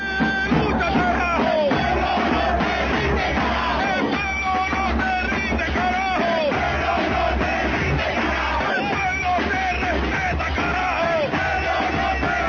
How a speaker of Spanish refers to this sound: yo quiero que escuchemos algo que es el reflejo de lo que estaba cantando ayer la población en las calles en Buenaventura. Escuchemos.